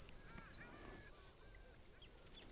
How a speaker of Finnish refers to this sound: Vaikka riskilän ääni ei ole järin kova, niin se kaikui jotenkin tavattoman hienosti sumuisella merellä.